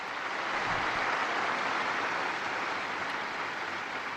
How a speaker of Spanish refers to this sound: Hoy se celebra la memoria de Santa Teresa de Calcuta. Para todos, Madre Teresa. Un hermoso aplauso, un gran aplauso.